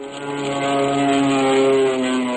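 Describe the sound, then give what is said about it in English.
A propeller airplane drones steadily overhead, its engine hum holding a constant buzzing pitch that swells slightly louder midway through, with no voices present. “2 days later, we were soaring in the sky.”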